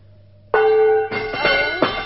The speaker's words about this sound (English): Tap the gong, will you